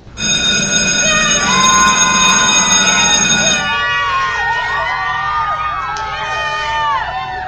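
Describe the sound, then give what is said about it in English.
A noisy recess crowd at Odyssey Elementary school: a steady ringing bell tone over loud chatter for the first few seconds, then many children's voices shouting and calling over one another. “It's just recess.”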